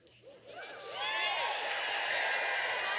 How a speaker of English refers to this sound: Y'all ain't gonna be cheering after I tell y'all this, right?